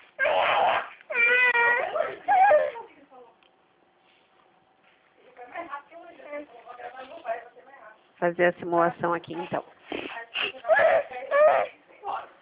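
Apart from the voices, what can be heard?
baby crying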